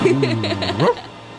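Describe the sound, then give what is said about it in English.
A dog barks once, a loud, drawn-out, tonal yelp that holds steady and then rises sharply in pitch before cutting off into quiet. “Is this your dog?”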